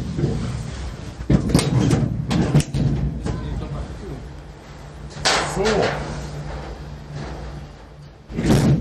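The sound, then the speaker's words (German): Several sharp metallic clunks and bangs of Ferris wheel cabin doors being shut at the Cologne Ferris wheel, with rattling and scraping in between over a steady low mechanical hum and faint background chatter. “Ihr hattet gerade ein bisschen Eindruck von der Geräuschkulisse hier, Türen zu und alles.”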